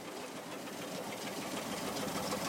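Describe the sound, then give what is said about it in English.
A corkscrew-shaped grain auger at seed silos moves oats from one bin to another with a steady mechanical whir and a dense, hissing rattle, holding an even loudness throughout with a fast, faintly pulsing rhythm and no voices. “Back at the seed silos, Mason Douglas is moving oats with a corkscrew-shaped auger from one bin to another.”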